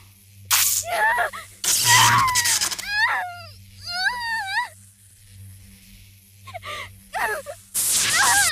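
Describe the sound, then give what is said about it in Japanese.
Several soft, breathy exhales puff very close to the ear, airy and hissing, alternating with a nearby voice making drawn-out, sighing vocal sounds in between. “私たちが落とした職員さんたちが こうやって耳に吐息をかけられて、 課長さんにすり寄っていく。”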